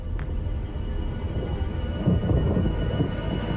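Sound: thunder rumbling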